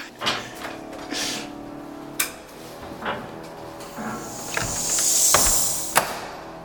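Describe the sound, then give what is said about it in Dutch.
A wooden door, the entrance to the organ of a church in Delft, is handled and opened: a few sharp latch clicks and knocks, then a longer hissing scrape as it swings, ending in another crisp click. No one speaks. “Leuk, het is de entree naar het orgel, deze deur.”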